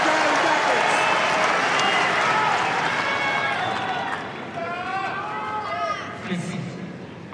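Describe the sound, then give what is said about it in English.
A tennis crowd at Roland Garros cheers on the American player Goff at break point against Swiatek's serve, a loud, steady roar of many voices with individual shouts and calls rising out of it, easing off slightly toward the end. “The crowd are willing her on.”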